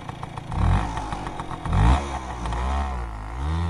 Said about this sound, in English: When the conflict started, Toilar jumped on his motorbike and rode for days on end.